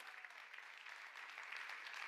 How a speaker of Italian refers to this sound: Oh, alleluia! Forte questo applauso per Gesù!